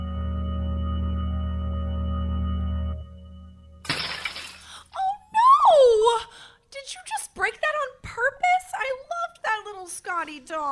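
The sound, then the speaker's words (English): A steady low hum gives way to a sudden, bright crash of animal-shaped glass Christmas tree ornaments shattering, followed by a run of high, wavering vocal cries and whimpers. “I'm going to remove all the glass ornaments from the tree, the ones from the same set these two came from, the animal-shaped ones”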